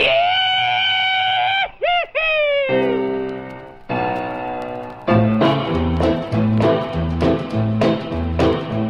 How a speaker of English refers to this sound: Now here is one Confederate veteran's rebel yell.